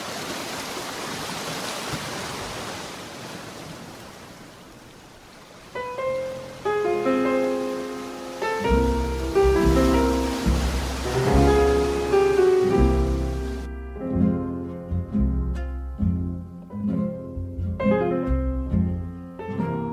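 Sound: sea waves and surf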